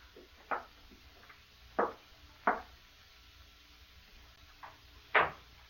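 A key taken from a pocket rattles and turns in the lock of a house's outside door, then the door opens, heard as a handful of sharp clicks and clunks spaced unevenly, with the last knock loudest. No one speaks.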